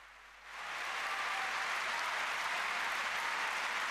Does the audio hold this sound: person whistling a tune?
no